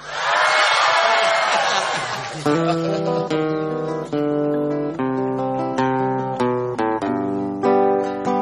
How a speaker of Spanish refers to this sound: Tienen que gritar como al principio del programa.